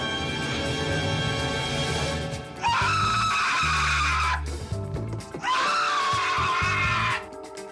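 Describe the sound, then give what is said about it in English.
A man lets out two long, loud, shrill screams, one after the other, in a film's tarantula scene, over a busy soundtrack with music and rumbling noise underneath. “There you go. That's the tarantula. It is the tarantula. I'm sorry. You knew the scream.”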